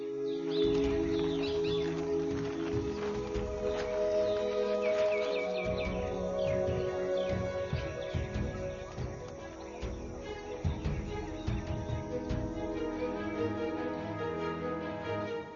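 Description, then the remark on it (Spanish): A dense chorus of many birds, including migrants from North America, calls and chatters continuously in the mangrove forests of the Amazon estuary, loud, with overlapping chirps layered over a steady low rumble. “Miles de aves provenientes de Norteamérica paran aquí o se quedan durante el invierno del norte.”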